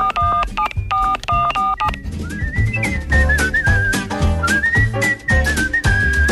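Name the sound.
telephone keypad dialing tones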